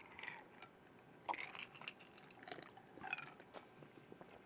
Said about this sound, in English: We're pouring one out for Jerry.